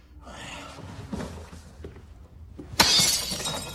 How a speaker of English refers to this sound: Colin punches through a window and pulls the curtains apart. He stares out of the broken pane.